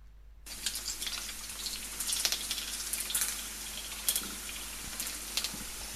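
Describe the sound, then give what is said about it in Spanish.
Bacon sizzling on a griddle: a steady, dense hiss of fat crackling, dotted with sharp irregular pops, starting abruptly and continuing without pause, with no voices. “Pues no me la había parado a pensar, pero ciertamente el bacon en la plancha suena igual que la lluvia.”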